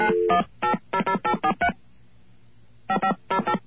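telephone dialing tones

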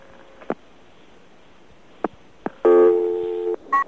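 telephone dialing tones

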